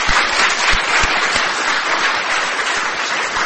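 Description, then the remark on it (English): A crowd at a women's conference claps steadily and loudly for the sponsor EMD Serono, a dense wash of many hands with no pauses or voices, sustained through the whole stretch. “Please share a round of applause with them as well.”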